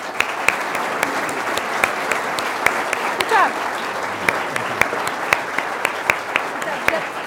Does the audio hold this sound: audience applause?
yes